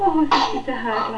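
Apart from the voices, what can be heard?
sneeze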